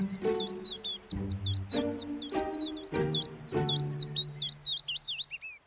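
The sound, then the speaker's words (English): A spring chorus of willow warblers sings, high rapid twittering phrases that repeat without pause, some slurring downward, over a series of lower droning tonal bursts that come and go. “The flaw in this plan, of course, will arise if you happen to receive an urgent call while surrounded by a spring chorus of willow warblers.”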